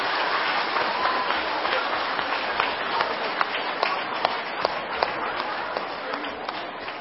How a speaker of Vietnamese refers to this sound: Vâng, vừa rồi là đại diện gần 450 phật tử tham dự khóa tu tinh tấn suốt 13 kỳ năm 2012, và bây giờ là phần thưởng dành cho gần 4.000 phật tử tham dự khóa tu một ngày an lạc tại tu viện Tường Vân, là một tràng vỗ tay thật dài và thật lớn.